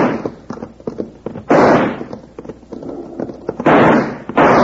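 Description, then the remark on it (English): Several loud six-gun revolver shots crack out in an uneven series, each blast ringing and trailing off before the next, with no talking in between; fired at a man out of hitting range to scare him off. “Well, we can't hit him at this range with a six gun. We can scare him off, though.”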